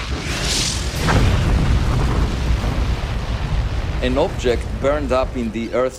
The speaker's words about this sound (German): Die Geschichte spielt im Niemandsland des Pazifischen Ozeans, etwa 100 Kilometer nördlich von Papua-Neuguinea. Am 8. Januar 2014 trug sich hier Erstaunliches zu. Es begann mit einer Explosion in 18 Kilometer Höhe über dem Meer.